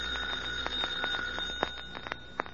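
A doorbell rigged to set a fire going when pressed rings without pause for a few seconds in a demonstration, a steady, high metallic ring with rapid rattling strikes and no voices over it.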